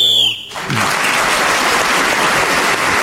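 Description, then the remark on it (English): A short, shrill whistle blast, blown to end the round, sounds at the start, then is immediately swallowed by loud, sustained applause from an audience. “So Clement was speaking as a whistle when gained that extra point.”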